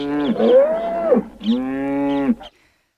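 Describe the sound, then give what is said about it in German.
Two long, loud cow moos in close succession, the first drawn out and wavering, the second steadier, each with a rich harmonic tone, with no talking. “Ich weiß nicht, was verrückter ist, dass sie nicht auf die Idee kam, sich im Vorfeld mal Gedanken zu machen, wie man eine Kuh transportiert.”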